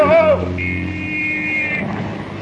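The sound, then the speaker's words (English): A car approaches on a street with a steady low engine drone and a sustained high horn-like tone cutting through, loud, with no one speaking. “look out for that car!”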